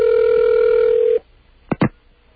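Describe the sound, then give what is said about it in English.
A telephone ringback tone on an outgoing call to Air India in New York: one steady, mid-pitched ring lasting just over a second, then quiet, then two sharp clicks in quick succession. “Now we're ringing Air India in New York.”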